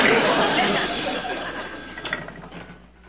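A hotline telephone bell rings continuously and loudly, a dense metallic jangle that keeps going for about three seconds before starting to fade toward the end.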